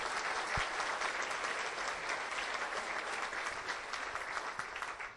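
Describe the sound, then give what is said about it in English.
An audience applauds United Way staff for their effort, dense overlapping claps holding an even level for several seconds before starting to taper at the end. “If we could give them a round of applause for their effort, please.”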